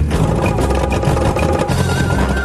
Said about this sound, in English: No, it's running, but it's going like that. Like in a classic scrappy way. Poor bodgers. It's not the hydraulics failing them. They're being let down by that old Escort engine. It's misfiring and not giving enough power to drive that hydraulic pump.